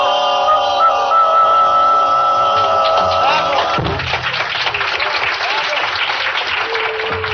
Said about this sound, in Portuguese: A plateia delira.